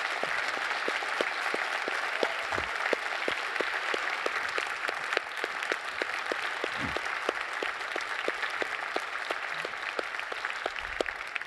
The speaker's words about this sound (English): Would you just help me by applause thank them for all that they do here in our community?